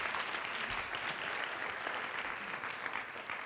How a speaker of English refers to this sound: Round of applause for Ross Ball, please. Thank you very much.